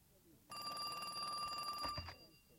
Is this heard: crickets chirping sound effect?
no